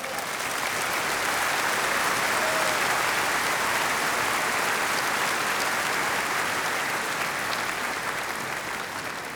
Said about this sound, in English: Give him an enormous applause, the king of the world, Johann Strauss.